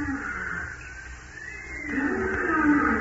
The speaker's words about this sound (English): Only tall trees and vines and strange flowers and strange wild birds and animals, too. Why, often at night, the jungle would sound like this.